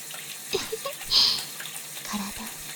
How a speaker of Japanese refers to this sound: 先端にシャワーを当てながら、根元の部分もお掃除していきますね。